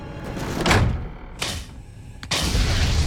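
The door of Nebercracker's house slams shut with a heavy, booming thud. Softer knocks and a low rumble come before it, and the low rumble carries on after the slam.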